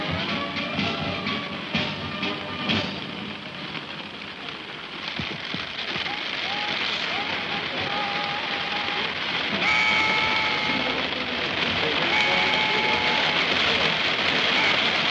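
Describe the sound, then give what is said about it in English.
Heavy rain pours down on a crowd at the Trooping the Colour in a dense, steady hiss that stays loud throughout, with faint voices and wavering tones threading through the downpour. “I have to report just a rustle of agitation in the crowd, because it is now absolutely pelting down, and the press are leaving.”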